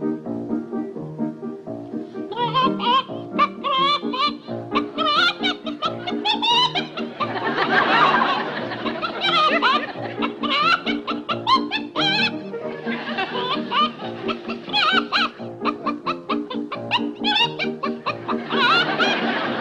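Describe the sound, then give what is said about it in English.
A person sings a tune entirely in choppy chicken-like clucks and squawks, fairly loud, with a steady musical accompaniment underneath throughout. “Sings like a chicken.”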